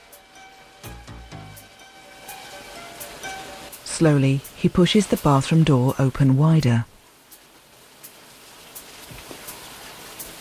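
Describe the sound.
A steady, hissing spray of shower water runs throughout, even, as a woman showers in a bathroom behind a steamed-up shower screen. A man's voice speaks briefly over it midway, and the water keeps running afterward.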